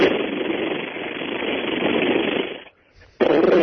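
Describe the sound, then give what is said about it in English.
A voice imitates AK-47 automatic rifle fire with a loud, sustained rattling burst of rapid mouth noise, a brief pause, then another short burst. “That was my AK-47, man. That was your mouth.”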